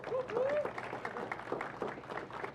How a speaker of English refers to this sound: Let's give the man a round of applause.